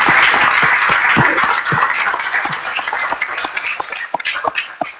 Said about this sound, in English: So let's just give them a round of applause if we can.